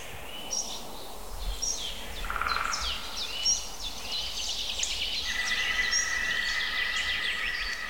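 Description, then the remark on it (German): A green woodpecker calls in a forest amid a busy chorus of chirping, twittering songbirds, with a sustained ringing call rising in the second half; no one speaks. “Grünspecht dreht völlig frei.”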